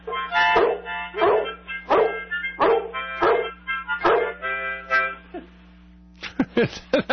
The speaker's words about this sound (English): when I played the harmonica, what a difference. He would jump up, and his tail would start wagging. He'd start barking. He just loved that harmonica.